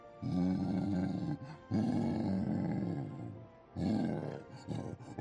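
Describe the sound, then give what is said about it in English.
A gorilla sound from the game Q9, selected in its sound menu, lets out deep, rumbling growls in three loud bursts. The roaring is harsh and guttural with short pauses between, followed by a brief final grunt. “Use your up and down arrow keys to select a sound and press enter to listen to it. Gorilla.”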